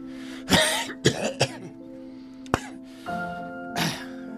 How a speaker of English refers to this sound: So clear any phlegm out of your throat before you go on the air, because it sounds awful if you have like a oh yeah crunchy throat like that.